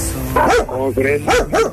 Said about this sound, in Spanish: Y así como tú tienes también perros, pues agresivos, de este lado también hay.